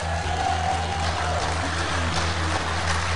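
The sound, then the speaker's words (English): A live church audience, at a church on the west side of Columbus just off 70 West, applauding: a dense, steady wash of many hands clapping that holds at an even level throughout, with a low electrical hum running underneath and no voices. “I hope you can hear their applause because we have a great church.”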